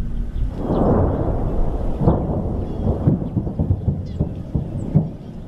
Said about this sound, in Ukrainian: Так, противотанковим комплексом бійці запускають ракету в бік російських військ, де може бути або техніка, або укріплення російської армії.